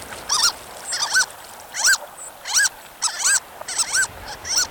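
Harlequin duck calls: a series of high, squeaky, mouse-like squeals repeated in quick bursts, clear over a soft background wash like rushing water.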